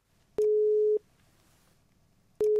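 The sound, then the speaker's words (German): A phone line's ringing tone sounds while the Radio Mikro Lachlabor show calls an animal expert: a steady mid-pitched beep, a long pause, then the beep starting again, clear and alone with no voices. “Wir haben im Lachlabor fast schon eine Telefonstandleitung zu ihm und die nutzen wir.”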